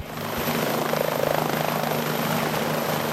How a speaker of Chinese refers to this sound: 空中传来直升机旋翼发出阵阵带有节奏的音浪，又是一趟任务的结束。费尔法克斯一号安全地返回机库。